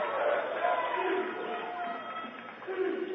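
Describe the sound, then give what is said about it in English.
A large traveling crowd at a basketball playoff game in Bearcat Arena cheering and shouting in a steady, dense roar, with a few louder swells and scattered higher-pitched yells rising out of the din throughout. “So we've had a large traveling crowd.”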